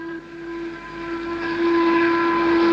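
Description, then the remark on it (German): A factory shift-change siren blares one long, steady, low-pitched tone with bright overtones, holding its pitch and swelling slightly louder over nearly three seconds, with no voices. “Sirene, jetzt ist Schichtwechsel.”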